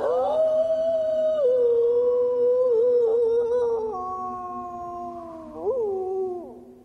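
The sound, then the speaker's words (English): A long, mournful wolf howl holds a steady pitch for several seconds, sags lower, then swoops up briefly near the end before fading. It is clear, with no voices. “But these tales say that on three nights of the full moon, the wolf pack grows thicker by one.”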